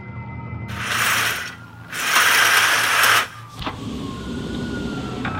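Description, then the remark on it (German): Emergency sirens wail together over low street rumble on a Sunday, punctuated by two loud, rushing bursts of noise before a steadier wail carries on. “Dazu eine Kakophonie von Sirenen.”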